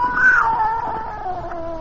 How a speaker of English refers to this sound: Something moved over by the stove. I didn't dare turn to look at it. Slowly, it moved out into my line of vision. It was a cat. That scrawny cat, Clara, that Mother Willis had sneaked aboard in LaGuardia.